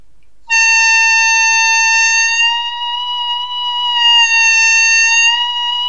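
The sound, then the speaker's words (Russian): A single piercing, high harmonica note, an overblow held loud for about five seconds, its pitch wavering slightly as it is bent upward, with no talking. “И притом, вот на этой гармошке у меня не было так, но я могу бендить эти overblow на 3-4 тона, полутона вверх.”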